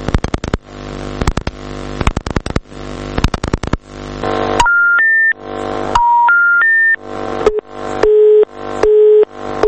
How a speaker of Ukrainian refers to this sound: Всі телефони служби інформації і громадських зв'язків Чорноморського флоту Росії не відповідають. Протягом останніх двох днів я багато разів намагався дозвонитися до її керівника, капітана першого рангу Андрія Крилова. Телефон постійно був зайнятий.